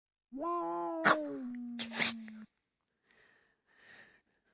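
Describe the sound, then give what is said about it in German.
A cat lets out one long, drawn-out meow that wavers and sags in pitch, loud, followed after a pause by two quiet, breathy sniffing or huffing sounds. “Und Ihre Katze sollten Sie auch versichern. Ein so schönes Tier.”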